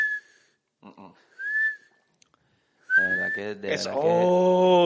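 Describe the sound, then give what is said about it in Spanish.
A voice imitates the whistling of mucus in a blocked nose while breathing: thin high whistles with short breathy bursts, then a louder, wavering nasal whistle blending into a voiced squeal, fairly loud. “El moco que silba, que entonces respiras y que sí.”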